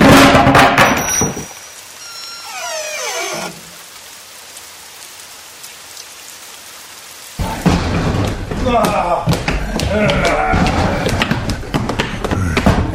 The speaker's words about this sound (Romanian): Haide de grabă, Haide. Ușa! Spargem!